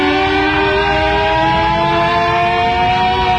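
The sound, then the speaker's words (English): A loud civil defense siren sounds the take cover signal, a shortened version of the real five-minute signal, wailing continuously, its rich, buzzy tone drifting slowly upward in pitch over a few seconds, with no voices present. “the signals you have just heard are shortened versions of the real signals.”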